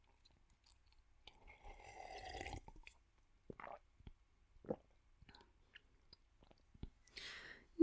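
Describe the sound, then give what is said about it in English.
Quiet mouth sounds of someone drinking water during a break: a sustained sip or gulp, then several soft, separate swallows and wet clicks with pauses between, and no talking. “Another water break.”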